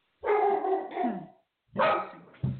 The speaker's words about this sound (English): Why are you guys barking? It's not even, there's no need to bark.